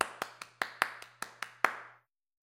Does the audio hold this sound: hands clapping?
yes